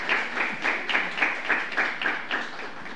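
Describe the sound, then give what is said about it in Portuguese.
An audience applauds a person who has just been introduced, the clapping falling into a fairly even rhythm of about three swells per second, moderately loud and continuous throughout with no voices. “Uma salva de palmas”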